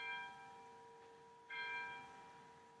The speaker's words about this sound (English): Yeah, so as you can see, we are definitely in Eastern Europe with these random bells going off all the time.